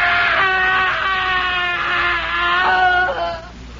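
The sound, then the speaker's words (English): A loud, sustained human scream of agony from a man inside a house on a street early one morning, a single drawn-out wail lasting several seconds that wavers in pitch and breaks off abruptly near the end, with no speech. “The screaming had ceased a moment before we gained entry.”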